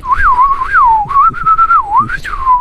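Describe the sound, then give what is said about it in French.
Someone whistles an imitation of a blackbird's song: one steady, fairly loud tone that swoops up and down in a mid-high register, ending with a quick upward flourish. No one speaks. “Fais-moi le chant du merle.”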